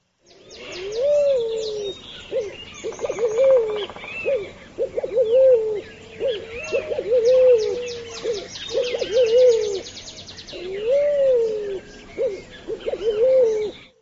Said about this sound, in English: Now, I would have thought that was an owl or something. I know what you mean, but this is not, you know, your typical bridge pigeon. That's a red-billed pigeon.